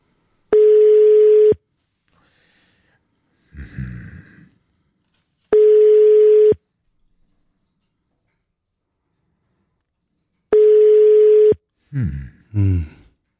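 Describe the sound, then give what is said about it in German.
An outgoing call's ringback tone sounds three times, each a steady one-second beep separated by long silent gaps, with brief muffled voice fragments in between and at the end. “Es klingelt.”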